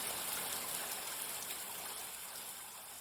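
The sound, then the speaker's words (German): Steady rain hisses continuously for a few seconds, a dense, even wash of sound with no pauses, fairly soft and unbroken, with no voices. “während das Lachen immer lauter wurde und sich mit dem Rauschen des Regens verband.”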